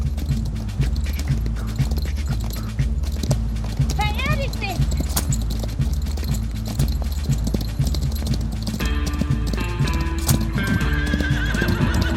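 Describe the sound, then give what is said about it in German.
Steady, rhythmic horse hooves clip-clop throughout, with a horse whinnying partway through. Later, bright tonal sounds join in, and the hoofbeats keep a regular trotting pace. “Auf, Pferdchen.”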